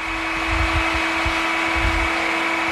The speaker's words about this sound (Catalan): Doncs bé, fins a les 9, ja el sento de fons que entra el camió de les escombraries.